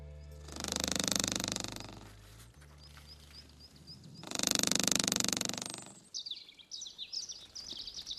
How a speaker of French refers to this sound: Nous voilà presque immergés dans le tambourinement de l'araignée loup sur une feuille, enregistré par Marc Namblard.